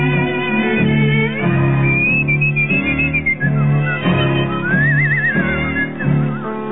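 A melody is whistled over steady musical accompaniment, the bright tune gliding and wavering with vibrato on held notes, clear and up front for several seconds with no voices.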